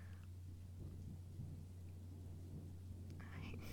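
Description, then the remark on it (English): Low, steady rumbling of thunder beneath a soft, continuous hiss of rain during a little storm, heard faintly, with a brief brighter burst of rainfall noise near the end. “It's just a little storm.”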